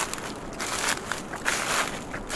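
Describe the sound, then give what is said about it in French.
Steady crunching footsteps through a carpet of dead beech leaves in a beech forest at around 1200 metres altitude, a rustling crackle with each step in an irregular walking rhythm, no voices. “Ici, c'est le retour de la hêtraie, avec son parterre de feuilles mortes”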